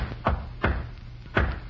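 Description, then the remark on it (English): Firm knocks on a stateroom door aboard a ship, two in quick succession, then a brief pause before a final single knock. Fairly loud over a low background hum, with no talking. “When you bring my meals, knock 3 times, then once.”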